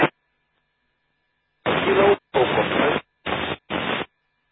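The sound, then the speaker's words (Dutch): Four short bursts of harsh amateur radio static, each lasting about half a second, separated by brief silences, with the faint, barely intelligible voice of a very weak station buried in the noise. “Dat is heel erg zwak.”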